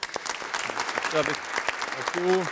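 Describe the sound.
A brief burst of dense hand clapping from a small group, steady, with a couple of short voiced exclamations rising over the applause, applauding a coach.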